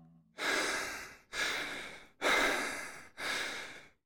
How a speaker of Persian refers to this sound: نفس عمیق بکش.